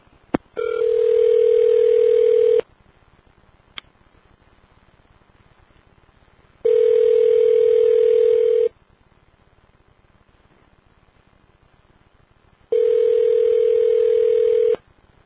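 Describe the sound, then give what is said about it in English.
A phone ringback tone purrs three times while calling a Lucky's store, each steady burst lasting about two seconds with roughly four-second gaps of near silence between, fairly loud and clear with no talking over it. “Answer the damn phone.”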